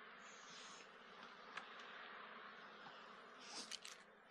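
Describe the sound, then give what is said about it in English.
Honeybees buzzing around a beekeeper after a hive frame is shaken, a dense, continuous droning hum that swells louder near the end, with a few sharp clicks and taps mixed in; no one speaks. “Buzzing me a little bit. Might have to suit up after that shake.”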